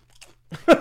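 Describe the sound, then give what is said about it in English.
A quick crunch of peanut butter chocolate snack mix being bitten and chewed: a faint crackle, then two sharper, louder crunchy bursts in under a second, with no talking. “Peanut butter chocolate mix. I mean, what a generous portion here.”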